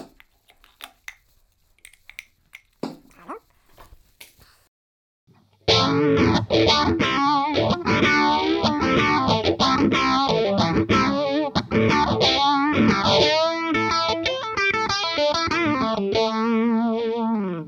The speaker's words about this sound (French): La même chose avec le phaseur, cette fois-ci après l'overdrive.